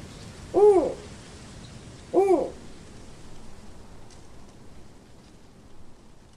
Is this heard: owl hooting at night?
yes